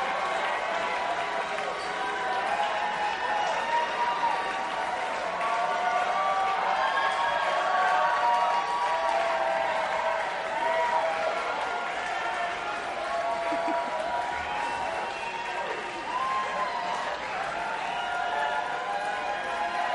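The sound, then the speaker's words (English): A dense, steady wash of crowd noise at a parade as costumed performers with ET heads toss things into the crowd, many voices overlapping with scattered cheers and clapping, sustained at an even, fairly loud level throughout with no single voice standing out. “And now a couple with sort of ET heads tossing things into the crowd.”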